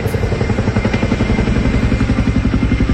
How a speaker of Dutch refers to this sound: Zo, er komt er wel wat overvliegen. Dat is het moment dat de Oekraïense president Zelensky onze provincie verlaat in een Chinook-helikopter, nadat hij in Vlissingen een marineschip had gekregen van ons land.